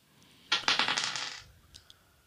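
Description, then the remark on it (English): Dice rattle and clatter across a hard surface in a quick burst of small clicking impacts that settle after about a second, followed by a couple of faint final taps. “Roll that dice.”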